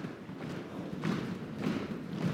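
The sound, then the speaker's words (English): Heavy, low thuds of people in a room stomping their feet on the ground in a steady rhythm, with repeated dull impacts roughly every half second and no voices. “So, if you don't mind, wherever you are, start stomping the ground.”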